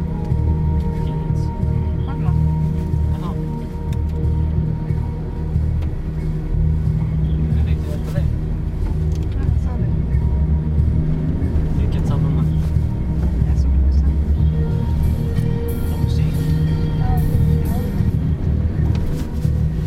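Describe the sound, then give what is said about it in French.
Steady low engine and road rumble fills the cabin of a moving car in Kiruna in the morning, a constant droning hum with faint rattles and shifting tones, continuous throughout. “On est dans la voiture ce matin.”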